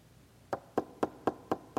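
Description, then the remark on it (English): Six quick, evenly spaced knocks ring out in a steady, brisk rhythm after a brief quiet moment, sharp, with no talking. “Now, if somebody just came to your house and knocked, they just did that knock, you know, just the real quick, and it was over with, you could ignore it, right?”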